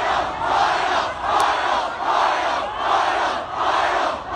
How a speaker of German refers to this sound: So hört sich das an, wenn hunderttausende Menschen in Hongkong auf die Straßen gehen. Die Menschen protestieren da gerade gegen ein geplantes Gesetz.